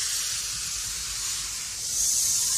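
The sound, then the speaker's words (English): A continuous loud hiss of escaping steam from a steam train put in a studio, broad and airy, holding steady for a couple of seconds before surging a little louder near the end, with no voices. “Why did you put a steam train in Studio B?”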